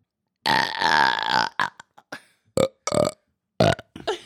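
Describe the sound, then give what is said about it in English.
A long, loud burp is followed by a string of shorter, choppy burps that shift between deep, bassy tones and higher-pitched squeaks, with no talking. “I can make my burp sound bassy. And I can make my burp sound really high pitch.”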